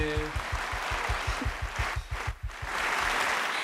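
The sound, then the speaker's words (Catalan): A crowd claps steadily for a few seconds for the winning group of a contest, a dense wash of hands with rhythmic low thumps running underneath, fairly loud and continuous throughout. “Un aplaudiment ben fort per aquest grup.”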